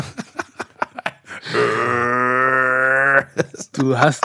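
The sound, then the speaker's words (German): A long, deep burp is drawn out into a steady guttural growl like a metal vocal, lasting nearly two seconds, with short choppy voice sounds just before and after it. “Ja, bei manchen Musikrichtungen ist ja Rülpsen auch ein Stilmittel.”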